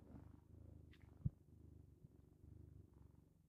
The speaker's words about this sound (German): Also ich höre es bis hier. So, das muss jetzt reichen. Das waren ungefähr 10 Sekunden Katzenschnurren.